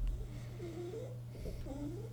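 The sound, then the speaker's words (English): A dog snores softly while lying right next to the speaker, two drawn-out wheezy, whistling breaths rising and falling over a steady low electrical hum, with no one talking. “My dog is snoring. He's laying right next to me and apparently he's a snorer.”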